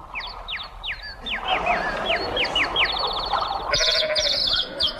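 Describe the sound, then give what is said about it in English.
A flock of sheep bleats in a steady, overlapping chorus, many short cries, fairly loud, with a buzzy rattling sound joining in near the end. No one speaks. “Now, look here, you sheep.”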